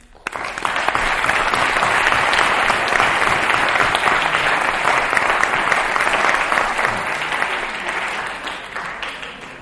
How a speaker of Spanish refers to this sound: Un aplauso muy grande para AFAL, que son realmente los galardonados y por quienes estamos aquí.